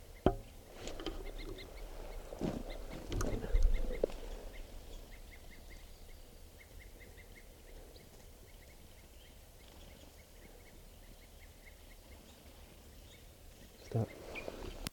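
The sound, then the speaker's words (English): Wild birds that have not been captured give repeated short, sharp alarm calls from up in the treetops, a steady series of chips over outdoor background noise, with some louder rustling and knocks in the first few seconds. “There's still some wild birds not captured up in the treetops, and they were giving alarm calls, and now they're grading into tubes.”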